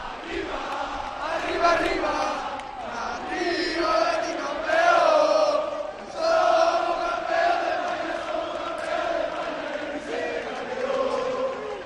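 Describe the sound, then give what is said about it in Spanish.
A crowd of football fans shouts and chants together outside the Villamarín stadium, a loud, continuous roar of many voices with rising and falling surges, no single speaker standing out, the shouts carrying through the press room windows during Manuel Pellegrini's press conference. “Y entonces estos gritos que se están escuchando se cuelan por las ventanas de la sala de prensa y no terminan de poder escuchar las preguntas, Manuel Pellegrini.”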